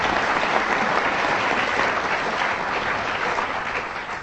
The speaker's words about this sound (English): She'll get a copy of this tape, and that applause is for her, not for me.